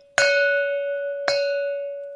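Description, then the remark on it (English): A single house bell swings and rings loudly, struck three times about a second apart, each strike leaving a bright, sustained metallic tone that hangs until the next. “It was, with great astonishment and with a strange, inexplicable dread, that as he looked, he saw this bell begin to swing.”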